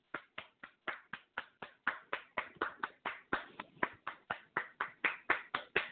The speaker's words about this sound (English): We ain't saying nothing with our mouth. But next time, don't clap your hands. Open up your mouth. Shout out to God with the voice of triumph.